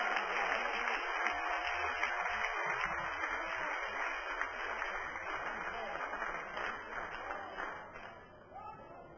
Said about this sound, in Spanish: Dar un aplauso a tu Dios en esta noche.